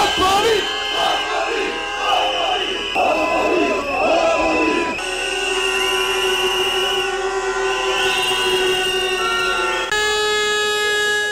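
A large crowd of protesting workers and union members in Sarajevo, rallying with banners against a new law, fills the air with many overlapping shrill whistles, some long and steady, others sharp bursts, over a dense murmur of voices and shouting.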